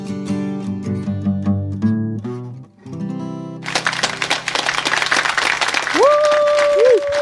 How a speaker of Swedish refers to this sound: Väldigt osmidig klapp det där, kände ni? Kan vi jobba på den? Det var inte vi i studion som klappade, utan det var faktiskt en knapp.